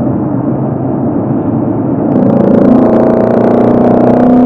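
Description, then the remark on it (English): A car engine drones steadily under road noise, then about halfway through, as the driver downshifts and gives it gas, the revs jump and the engine swells into a louder, rising hum that holds to the end. “Okay, so that I really gave it gas and you could hear the engine.”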